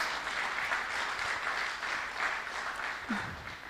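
An audience claps steadily for a few seconds, a dense, even wash of applause at moderate volume, with a brief voice surfacing near the end. The applause welcomes another participant in a Bible story enactment.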